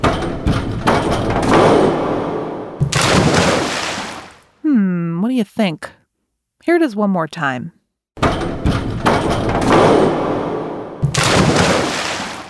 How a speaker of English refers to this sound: So, what's that sound? Diving! The sound you heard was a diver bouncing on a diving board before splashing into a pool.